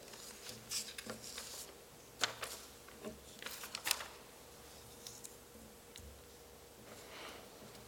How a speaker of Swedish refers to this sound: Nu har jag blandat ihop papperna, men det spelar ingen roll, kommer vi köra på ändå.